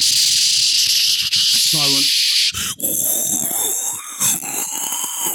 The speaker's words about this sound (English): It starts raining quite heavily. And a sort of heavy, that's the rain. Heavy, fine rain.